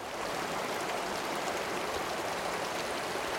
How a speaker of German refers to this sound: Flussabwärts, Stromschnellen mit mächtigem Rauschen und Gurgeln.